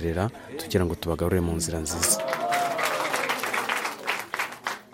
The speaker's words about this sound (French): La séance se termine sous les applaudissements.